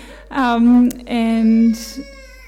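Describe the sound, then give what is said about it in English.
An 8-month-old baby girl fusses in two drawn-out, whiny vocalizations, half cry and half babble, followed by a short breathy huff. “So, yeah, so that's hopefully it's not too much of a ruckus over there.”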